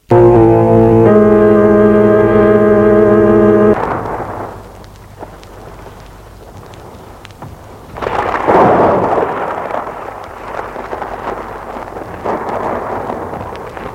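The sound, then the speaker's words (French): A sustained musical chord gives way to a steady hiss of rain, then a loud, rolling thunderclap bursts in and rumbles on as the storm continues. “Ils sont partis tous deux sous l'orage à chercher dans les alentours.”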